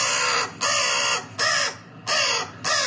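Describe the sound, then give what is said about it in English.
Birds call out in four loud, harsh, raspy caws, each lasting around half a second, spaced with short gaps in a steady rhythm, with no talking. “She started leaving puzzles for her winged visitors, like an overturned cup covering their food, or novelties like a new glass container for the peanuts.”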